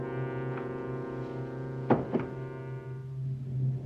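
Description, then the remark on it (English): A bedroom door connected to a study shuts with a quick pair of solid thuds near the middle, set against a steady, sustained low droning tone that continues throughout. “He shuts the bedroom door.”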